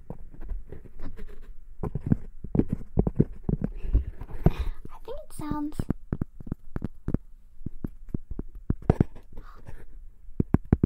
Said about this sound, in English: Do you hear the horse? I hear the horse.